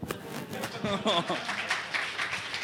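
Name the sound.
applause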